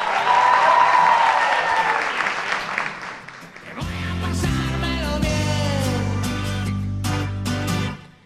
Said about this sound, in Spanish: Hoy es martes 19 de febrero, son apenas las 8:30 de la mañana y Despierta UMH vuelve hoy a Álama de Murcia, al Instituto Valle de Leiva. Que se escuche fuerte otra vez esos aplausos, chicos.